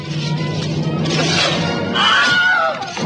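wilhelm scream sound effect

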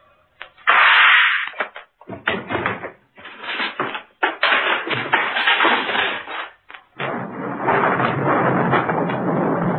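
thunder

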